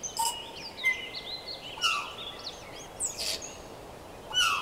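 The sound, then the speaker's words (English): Several birds sing together in a layered chorus, with bright whistled phrases, trills and short chirps overlapping over a steady outdoor background hiss. “Do you thrill to the dawn chorus, the bird song that honours the return of the sun?”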